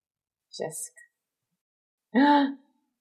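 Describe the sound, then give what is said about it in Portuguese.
A belly breathing exercise as done in a musical: a quick, breathy intake of air, a pause, then a short, fairly loud voiced exhale with a hum-like tone, no talking. “Olha ela fazendo a respiração de barriga do musical.”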